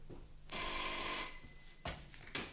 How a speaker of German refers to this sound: Da klingelte das Telefon.